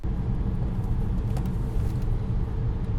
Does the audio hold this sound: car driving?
yes